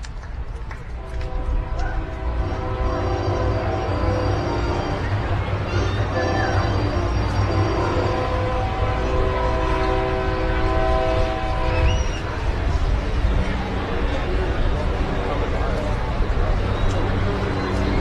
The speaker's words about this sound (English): Freight train rumbling by nearby.